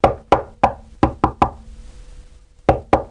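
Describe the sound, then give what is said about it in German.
Loud knocking on a heavy wooden city gate on an evening of terrible weather with lightning, thunder and pouring rain: two quick bursts of three hard raps, a pause, then three more, each knock ringing with a hollow wooden boom. No voices. “Da klopfte es an das Stadttor.”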